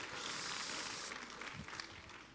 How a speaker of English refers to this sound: Clap your hands as you are seated tonight. Come on now.